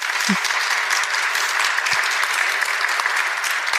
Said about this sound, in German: Ja, und zunächst möchten wir Ihnen die beiden Autorinnen kurz vorstellen, Sie vor allem herzlich begrüßen, vielleicht mit einem kleinen Applaus.